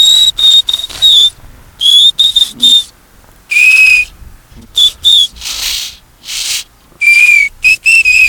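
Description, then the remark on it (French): A homemade whistle made from a hollow plant stem, blown in a series of short, shrill, breathy toots, about a dozen bursts in an uneven rhythm, loud with no talking. “Il doit y avoir encore des choses dedans, des petites saletés dedans. Faut bien les vider pour que ça siffle bien.”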